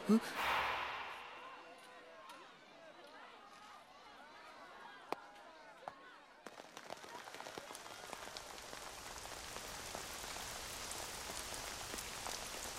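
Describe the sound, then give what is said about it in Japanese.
Breathy sighs and gasps give way to steady rain pattering down, a dense hiss of countless drops that continues evenly to the end; light rain beginning to fall during an outdoor sports competition with a kibasen (cavalry battle) event. “雨が降ってきたため、ただいま競技の進行について審議しております。”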